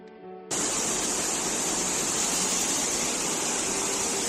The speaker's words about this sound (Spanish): Así sonaba el agua por una de las bocas del metro en Madrid. La ciudad llegó a registrar en 24 horas más de 100 litros por metro cuadrado.